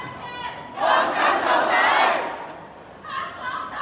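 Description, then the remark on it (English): A large crowd at a pro-independence rally in Hong Kong shouts in unison for independence, a loud swelling roar of many voices that peaks, briefly drops, then rises again as the chant resumes. “It's people shouting for independence.”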